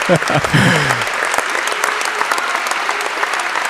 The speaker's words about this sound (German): Jetzt hört man. Jetzt ist der Moment der Verleihung. Ein Tusch. Ja. Applaus.